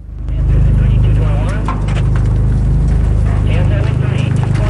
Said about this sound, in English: Jim starts his car and it rolls forward slowly with its red and blue lights flashing up top.